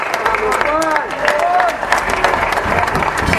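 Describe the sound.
An audience at a CTA (Central de Trabajadores de la Argentina) union event in Argentina breaks into steady, dense applause for a speaker about to talk, a crackle of many hands clapping at once, with scattered voices calling out and cheering over it throughout.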